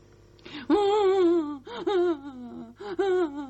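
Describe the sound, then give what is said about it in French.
A voice imitates a fox crying: three loud, wavering wailing sobs, each starting with a sharp gasp-like catch, then sliding down in a trembling, whiny pitch with short breaks in between. “Le renard commence à pleurer, il s'assoit par terre sous les fenêtres de l'ours.”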